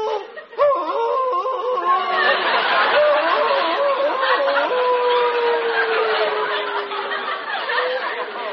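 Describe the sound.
A man howls like a wolf, calling to Gitche Gumee, in long, wavering cries that end in a drawn-out falling wail, with other voices murmuring and chuckling underneath.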